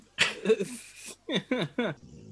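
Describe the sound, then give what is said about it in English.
A male dog snores during a nap in loud bursts: a noisy, rasping snort first, then three quick groaning breaths that each slide downward in pitch, with brief gaps between them. “Sorry, my dog's snoring.”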